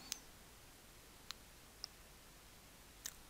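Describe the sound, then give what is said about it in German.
Sharp mouse clicks on an OK button while adding a new software project to source control, four in all, spaced unevenly across a few seconds with the last one doubled, each crisp and brief over a faint steady hiss, with no voices. “Deshalb sieht man jetzt, wenn man auf OK klickt, noch einen zweiten Bildschirm.”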